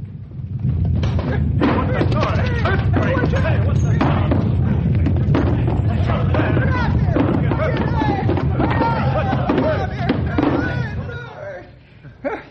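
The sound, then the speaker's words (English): A loud, sustained earthquake rumble, a deep roaring din with rattling, crashing bursts and clattering debris mixed through it, holding steady for about ten seconds before dying away. “Hey, door jammed from Quake.”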